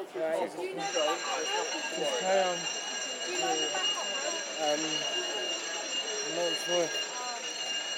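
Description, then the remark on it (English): A fire alarm sounds a steady, piercing high tone that starts just after the opening and carries on throughout, while voices talk underneath and an announcement over the alarm says: "Attention. The fire alarm has been activated. Evacuate the area immediately." “The fire alarm has been activated. Evacuate the area immediately.”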